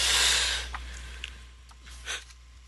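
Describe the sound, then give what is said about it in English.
A person yawns, beginning with a long, airy breath that fades out, followed by a few faint clicks and soft breaths. No one speaks. “I was waiting for the yawn to be over.”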